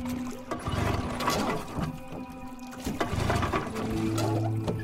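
A boat engine breaks down at sea about 20 miles from the Florida coast, grinding and clanking with uneven mechanical rattles and droning hums over sloshing water, loud for about five seconds with no voices.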